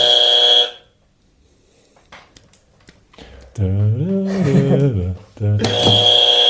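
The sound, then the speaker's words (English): A person imitates a harsh game show buzzer with their voice in two loud, blaring bursts, one at the start and one at the end, separated by faint clicks and a voiced, wavering vocal sound. “You're the buzzer guy. I'm the buzzer guy? Buzzer.”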